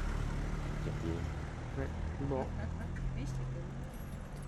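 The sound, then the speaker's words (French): Steady street traffic: a continuous low engine rumble and hum of vehicles filling the whole scene, with brief voices murmuring faintly underneath. “Et ça circule, dis donc, hein, on se disait avec ….”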